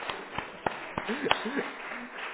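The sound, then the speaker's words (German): A handful of sharp, scattered handclaps ring out at an uneven pace, the start of a church service audience in Cologne clapping for guests who cycled from Dresden, with people's voices murmuring underneath and a soft background hiss. “Also Respekt, ich glaube, können wir auch mal klatschen.”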